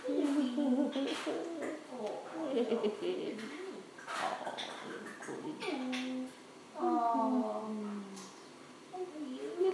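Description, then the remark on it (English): A pet bird calls almost continuously in low, hooting, voice-like coos and warbles, with rising and falling tones and brief pauses between phrases. “Are you going to be a one-person bird?”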